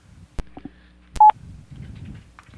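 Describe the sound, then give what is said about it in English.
A brief electronic phone keypad DTMF tone sounds alongside sharp clicks of buttons being pressed as a phone number is typed in, with a faint low murmur of background voices throughout. “Mine actually does the DTMF tones, so we couldn't use it.”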